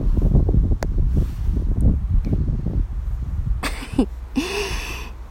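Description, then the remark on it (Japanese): Heavy wind buffets the microphone outdoors in continuous low rumbling gusts, loud throughout, with a few brief sharp clicks and a rushing burst toward the end. “風めっちゃ強いんだけど、前回のさ、収録の時さ、めっちゃ風の音入ってるねみたいな言われた。”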